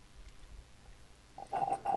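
Loud, wet slurping of a mixed drink of turkey, scotch, soda and/or tea. A quiet low rumble comes first, then three short gurgling sucks in quick succession near the end, with no one talking.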